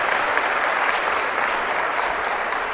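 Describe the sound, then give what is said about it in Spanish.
Steady audience applause for a gentleman who has just given an explanation, a dense wash of many hands clapping at an even, fairly loud level throughout, with no voices rising above it. “Un aplauso para ese caballero, tenga la bondad.”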